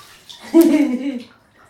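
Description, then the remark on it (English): A short burst of water splashing in a bathtub as a grandmother washes a child's hair, with a voice sounding over it for about a second before it fades into quiet. “This is the way we wash your hair, wash your hair, wash your hair.”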